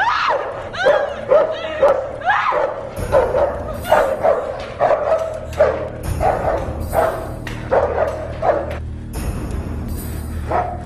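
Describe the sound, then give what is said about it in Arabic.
Several dogs bark and yip excitedly in rapid, overlapping bursts, with occasional whimpers mixed into the frantic chorus. “أطلق الكلب عليها.”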